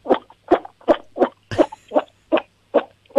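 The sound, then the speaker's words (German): A 7-year-old child from Lower Austria imitates a toad with her voice, giving about nine short, throaty croaks in a steady rhythm, fairly loud, with no other talking. “Ich kann voll gut singen und die Kröte machen.”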